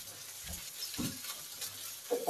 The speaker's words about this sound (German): Die kommen jetzt alle gemeinsam mit den 1, 2, 3, 4, 5 bis 6 kleineren Garnelen. Miesmuscheln und Venusmuscheln kommen alle in die Pfanne. Wunderbar. Und die schwenken wir jetzt auch an und die bleiben jetzt auch in der Pfanne.